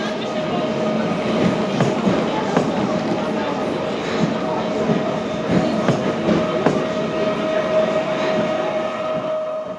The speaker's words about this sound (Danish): Der kører meget få tog, men de er overfyldte.